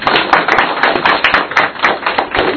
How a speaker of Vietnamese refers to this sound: Vâng, chúng ta cho một tràng pháo tay để cảm ơn anh ấy.